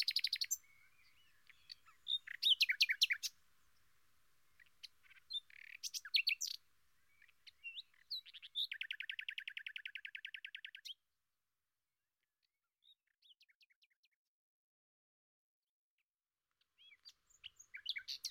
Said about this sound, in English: Listen to the birds now.